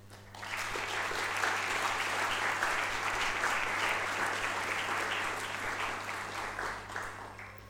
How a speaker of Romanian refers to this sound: Să o aplaudăm!